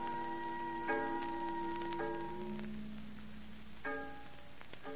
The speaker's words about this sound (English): Listen to the fog bell